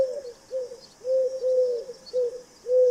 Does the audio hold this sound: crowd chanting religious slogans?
no